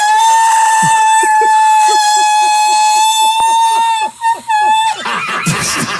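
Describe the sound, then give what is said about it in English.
A voice holds one loud, piercing high note steadily for about five seconds, trying to shatter a wine glass, then it cuts off into a brief burst of rough noise. “Breaking a wine glass with your voice.”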